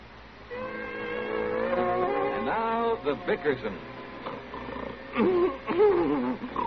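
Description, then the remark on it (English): Loud snoring: a long wheezing, whistling breath drawn in, then sputtering, fluttering snorts and another rising, warbling wheeze, repeating in an uneven rhythm. “It's that horrible snoring.”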